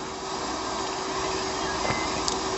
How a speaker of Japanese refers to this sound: じゃあ、電車。 ああ、電車だね。